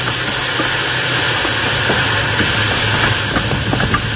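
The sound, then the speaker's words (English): Loud, steady hissing of steam from a locomotive fills the whole stretch, with faint mechanical clanks and a low rumble underneath as the engine, put in reverse, slows down. No one speaks. “I'll give her all the steam you've got back.”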